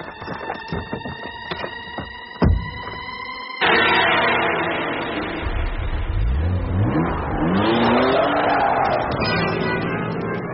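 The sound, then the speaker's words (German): A car engine cranks and idles with a steady hum, gives a sharp knock, then roars to life and revs up, its pitch climbing and sweeping as it accelerates away. No voices. “Halt ihn auf, bevor er beim Auto ist!”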